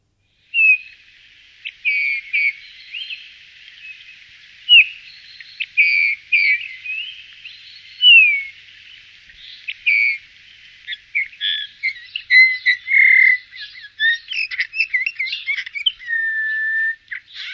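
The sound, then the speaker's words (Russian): A Eurasian bullfinch sings alone, a steady run of soft piping whistles mixed with scratchy, creaky notes that grows busier and more chattering toward the end. “А между тем, это снегирь, знакомая нам всем с детства птица, которую, к сожалению, все чаще мы видим не на деревьях, а на новогодних открытках.”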